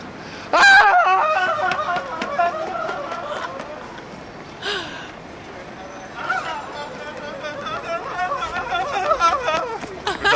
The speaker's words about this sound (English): That was good, actually. Good, just screamed and ran off and ran back. That was surprising.